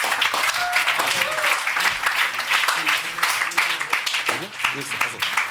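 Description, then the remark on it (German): Sustained audience applause for the furniture firm Möbel Bayhoff fills the whole stretch, a dense, steady wash of many hands clapping, with faint voices and cheers mixed underneath. “Ich bring dir die aber jetzt rüber, du brauchst nicht nochmal laufen, aber ein Applaus für Möbel Bayhoff.”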